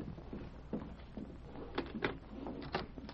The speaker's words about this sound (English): The following morning, Mary Carver and Hank were at breakfast when a knock came at the door.